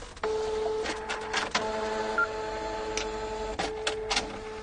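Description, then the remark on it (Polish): A receipt printer prints shop receipts, running steadily, a sustained mechanical whir with a fixed tone, broken by a few sharp clicks and short bursts of higher-pitched grinding as the paper feeds. “Wcześniej były na papier termotransferowy, także ta jakość była taka sobie, tak to wyglądało, jak drukuje się paragony w sklepach.”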